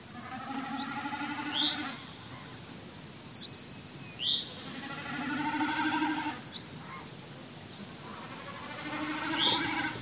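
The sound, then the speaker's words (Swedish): Common snipe drumming: a courting male in steep repeated dives, its outermost tail feathers spread to catch the airflow and vibrate, making a bleating, throbbing hum repeated in four or so bursts of about two seconds each, with small bird chirps scattered over it. “Hör man det här, då vet man att enkelbeckasinhanen är ute och friar.”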